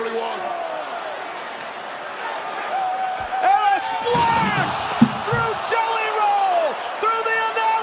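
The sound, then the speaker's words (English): A loud crowd roars and whoops throughout at MetLife Stadium in Jersey, then a heavy crash of a body smashing through a breakaway table bursts out midway, followed by a sharp impact and rising cheers. “Even if that's a breakaway table, which it is, there's no way that was easy to do.”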